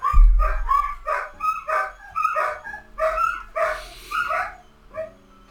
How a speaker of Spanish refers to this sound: Así son los perros. Pasa una sirena a 10 cuadras de distancia y empiezan a gritar.